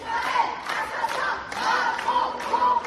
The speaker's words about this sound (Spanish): Estos gritos de Israel asesino, Macron cómplice, han sido pronunciados hoy frente a la Universidad de Lyon, donde se han reunido varias decenas de estudiantes a los que el servicio de seguridad les ha impedido el acceso.